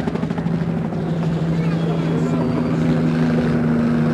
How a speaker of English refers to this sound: One helicopter now is in real low. Military police helicopter.